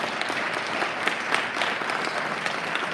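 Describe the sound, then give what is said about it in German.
An audience applauds steadily for a few seconds in honour of the birth of Jesus Christ at a Christmas service, a dense, even patter of many hands clapping at a constant level with no voices standing out. “Lasst uns ihm auch noch mal einen Applaus geben.”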